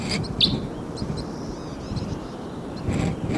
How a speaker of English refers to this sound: Birds may be coming down. Oh, there they go. Oh, here they come.